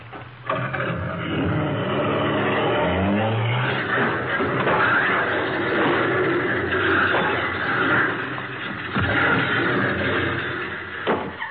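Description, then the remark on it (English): A car engine starts and revs loudly, rising in pitch, then roars steadily before a sharp crash of splintering wood near the end as the car, its accelerator sticking, goes right through the back of a garage, with no talking. “Why, he went right through the back of the garage.”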